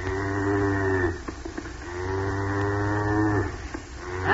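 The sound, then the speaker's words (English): Cows in a pasture moo in long, low, drawn-out calls, two full bellows with a short pause between them and a third beginning at the end. The lowing is loud and steady, with no talking. “I better go bring the cows back up to the barn from the pasture.”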